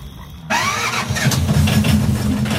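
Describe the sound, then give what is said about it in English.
The motor of a little fisherman's boat catches abruptly and revs into a steady, rumbling drone with a rattling mid-range buzz, loud, running continuously after the start as the boat heads north. “Crammed into the little boat, scared and exhausted, we headed north, the scrawny man at the helm.”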